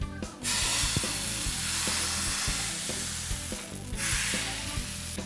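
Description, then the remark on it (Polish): Steady, bright sizzling of pancake batter frying in a hot pan, loud, with occasional soft knocks and scraping underneath; no one speaks. “Ciasto na naleśniki już mamy gotowe, więc... bierzemy się za smażenie.”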